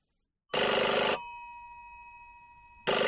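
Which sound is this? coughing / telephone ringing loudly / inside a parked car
telephone ringing loudly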